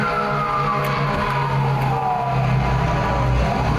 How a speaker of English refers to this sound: So, here comes something exciting. A couple of fire trucks heading down Reseda Boulevard.